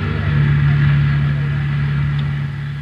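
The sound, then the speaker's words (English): A car engine idles after driving up to Groveland Drive, a steady low rumbling hum that holds evenly for the whole moment without revving or pausing. “Ben and I drove up to Groveland Drive and joined the search”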